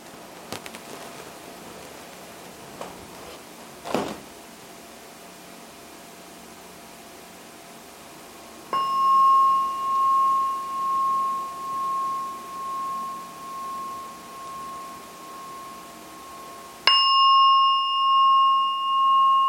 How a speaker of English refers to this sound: So now we are coming closer to the end of this meditation session. I will ring the gong 3 times, so then you can come when I ring for the 3rd time.